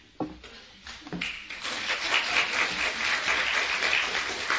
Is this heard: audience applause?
yes